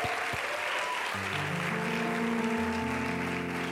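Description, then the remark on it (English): An audience at a church service claps in a steady, dense wash of applause to celebrate returning members, and sustained organ or keyboard chords rise underneath about a second in and carry on through the clapping. “You can clap.”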